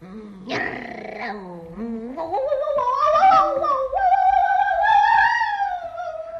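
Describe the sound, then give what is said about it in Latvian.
A dog growls in one continuous, drawn-out rumble that rises into a tense, whining pitch and holds fairly loud for several seconds, with no talking over it. “Aizgāja. Un vēl rūc.”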